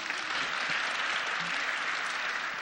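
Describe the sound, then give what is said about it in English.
An audience claps steadily for a few seconds, answering whether they used to come and see Molly there, a dense, even wash of many hands with no pauses and no voices rising above it. “Just give me a clap. Clap.”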